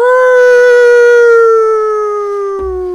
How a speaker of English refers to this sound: Just then, a howl pierced the night. It came from the jungle. It came from all around us.